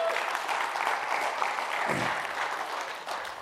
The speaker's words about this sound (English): $85,000 came in that month, and you can clap and applaud because that was amazing.